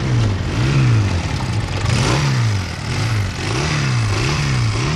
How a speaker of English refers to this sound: The sound of a well-tuned motorbike, that may be music to the ears of a Barry Sheen fan, but it's probably absolute anathema to anyone who's not so keen on a throaty roadside roar.